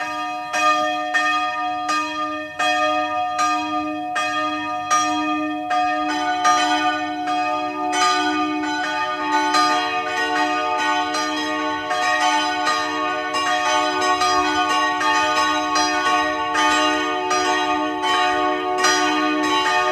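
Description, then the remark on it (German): The bells of the branch church of Rohr im Burgenland ring at noon, continuously in a dense, overlapping peal, their strikes blending into a sustained shimmer of bright metallic tones, loud with no voices. “Sie hören die Glocken der Filialkirche von Rohr im Burgenland.”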